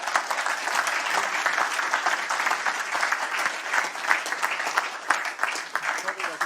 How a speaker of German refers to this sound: Mit diesem Schlusswort einen großen Applaus.